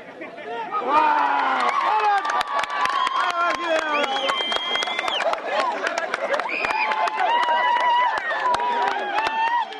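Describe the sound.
A wrestling bout in the Nuba Mountains of Sudan amid a loud, excited crowd: many voices shout, whoop and cheer continuously for about ten seconds, punctuated by sharp claps and thuds as the wrestlers clinch, hop, pivot and both go down, a shoulder thumping the dirt.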